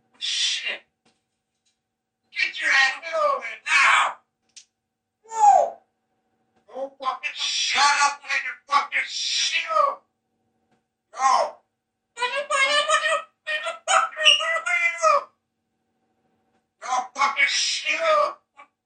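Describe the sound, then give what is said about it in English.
A parrot named Bud imitates a heated human argument that led up to a shooting, in a string of shrill, voice-like bursts with short pauses, shifting between higher and lower tones, fairly loud, with no clear words. “Using both a higher voice and a lower voice, Bud the parrot seemed to be repeating the argument”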